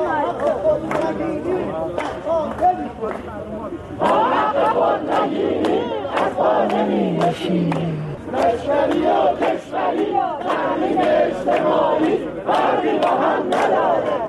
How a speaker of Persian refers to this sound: تجمع کنندگان در اصفهان شعارهایی دادند که با هم می‌شنویم.